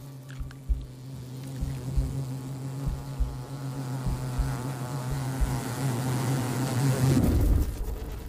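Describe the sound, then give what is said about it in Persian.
A wasp buzzes in flight by a jumping spider's nest, sensing the spider's smell with its antennae, with a steady, low droning hum that grows louder as it draws near, then cuts off abruptly near the end. “زنبور با گیرنده های رو شاخکاش متوجه بوی عنکبوت میشه.”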